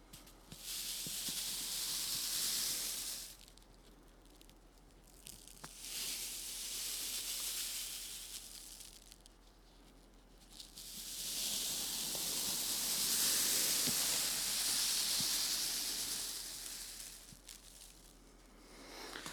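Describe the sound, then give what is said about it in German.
Trees rustle in the wind with a steady, airy hiss that swells and fades in several long gusts, the loudest surge coming late. No one speaks. “Die Bäume rauschen.”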